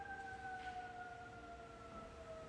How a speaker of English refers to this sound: God bless all those who are receiving help in these moments as I hear that siren.